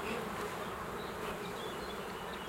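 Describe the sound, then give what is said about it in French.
A steady, dense hum of a colony of black honeybees buzzing together, even and continuous from start to finish with no voices. “Alors, je ne sais pas si vous entendez, mais le bruit est significatif d'une colonie qui va bien. Le bruit est régulier, tout se passe bien, elles sont bien là.”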